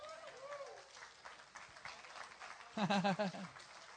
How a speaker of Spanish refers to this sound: ¡Wow! Deberían de aplaudir.